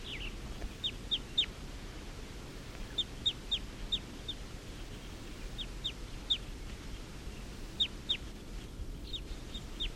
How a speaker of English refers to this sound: And the wild birds are up in the trees calling, like they're gonna get ready to take off.